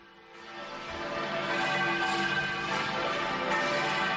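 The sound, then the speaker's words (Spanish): The bells of the Cathedral of Santander in Cantabria peal continuously in a dense, overlapping wash of ringing tones, announcing a new bishop for the diocese, building in loudness over the first second and then sustaining steadily, with no voices. “Así conocían la noticia las campanas de la Catedral de Santander.”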